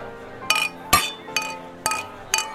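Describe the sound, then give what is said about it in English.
Glasses clink together in a toast, five bright, ringing taps spaced about half a second apart, with a faint background murmur between them. “Rob Bowman, cheers. Sweet, cheers. Cheers. Cheers.”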